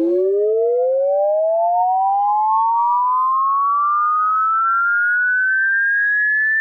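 A loud ambulance siren tone sweeps steadily upward in pitch in one long, smooth rise lasting several seconds, heard alone with no voices or other sounds.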